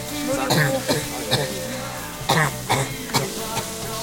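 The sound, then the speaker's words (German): A person coughs several times in short, irregular bursts, moderately loud, with a steady murmur of background noise and faint voices throughout. “Und Sie husten, Bonbon?”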